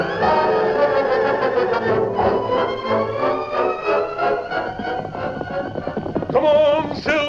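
Horse hooves clip-clop in a steady rhythm beneath loud, dense music, and a brief high whinny-like cry rises near the end.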